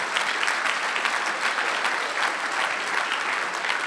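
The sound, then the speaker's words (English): A room full of people clapping steadily together for the mothers in the room, a dense, sustained wash of applause that holds at an even, fairly loud level throughout with no voices standing out. “So let's give a round of applause to all the super mums in the room today.”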